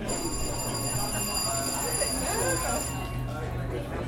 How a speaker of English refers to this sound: That's the bell. Okay, you're alive.